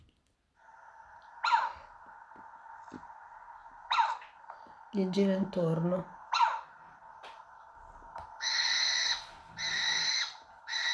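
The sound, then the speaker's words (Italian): A little owl calls repeatedly, sharp yelping notes at a steady spacing, then a run of louder, longer mewing cries near the end, with a brief spoken phrase in between. “La civetta è questa qua.”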